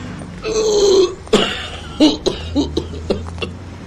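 An old man coughs from vehicle smoke in the city air: one drawn-out, rasping hack, then a string of short, throaty coughs that grow weaker and trail off, with no talking.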